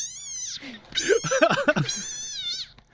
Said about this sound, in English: Okay, and if you don't know what that is, that's actually a cane toad screaming, which they do very relatively apt. Often.